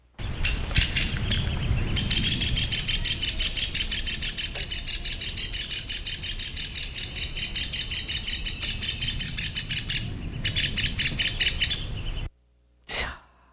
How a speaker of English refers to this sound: Yes, we are going to listen to the alarm call of the downy woodpecker, which is relatively common. So keep an ear out.